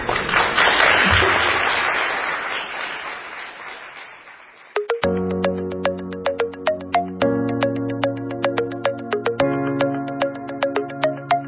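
An audience applauds steadily for about four seconds, the clapping gradually fading before a bright, plucky musical jingle with sustained bass notes takes over.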